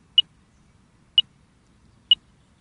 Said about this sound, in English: the beeping that you can hear is just telling us that the instrument is working. Every time it takes a reading, we get the beep